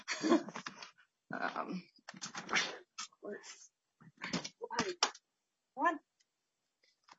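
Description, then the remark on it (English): A dog makes a string of short, sharp vocal bursts, ending in a higher whining yelp, mixed with some clicking noises and brief pauses between sounds. “Excuse me just a second. My dog is...”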